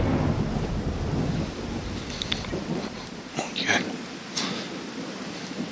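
Steady rain hisses while a deep roll of thunder rumbles through the first half, then fades as a few sharper crackles and splashes break through the downpour.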